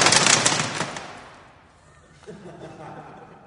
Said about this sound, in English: That's mildly exciting because it's chocolate all over the floor.